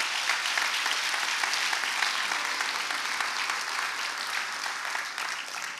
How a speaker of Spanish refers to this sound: Si quieres aplaudir, aplaude a Dios por eso.